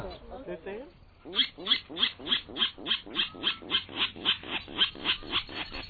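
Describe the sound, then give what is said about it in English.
A Virginia rail calls with a rapid, steady, loud series of about fifteen harsh, grunting notes. A brief burst of other rough sound comes just before the series starts. “That's what makes it so exciting when you finally spot a bird like the elusive Virginia rail.”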